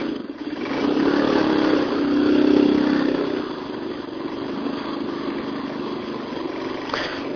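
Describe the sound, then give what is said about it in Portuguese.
A motorcycle engine runs steadily, its low rumble swelling slightly in the first few seconds before settling into an even, continuous drone with no talking. “E conversar, né? Com o bando de moto.”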